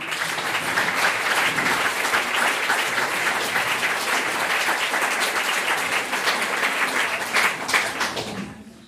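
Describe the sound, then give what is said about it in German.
Sustained applause from an audience for a guest speaker, a dense steady wash of many hands clapping at fairly loud level for several seconds, fading out at the very end. “Ich glaube, es ist nochmal ein Applaus wert.”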